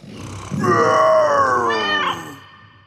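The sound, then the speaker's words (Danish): A person roars into a cola bottle to imitate a lion: one loud, sustained, hollow growl of about two seconds that strains higher near the end before trailing off. “I skal se, hvis jeg putter den her colaflaske op, så kan jeg fuldstændig lyde som en løve, der brøler.”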